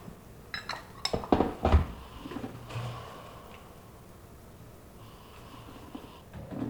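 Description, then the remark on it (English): A few sharp porcelain clinks give way to soft breathing in and out three times, airy and hushed, over a lidded porcelain teacup (gaiwan) filled with hot water, held to the face while tasting tea. “So what you do is you bring it in, and you breathe in and breathe out 3 times, and you can pass it down, and you can by breathing in it, you can see it, you can look at it, you can understand a little bit of it.”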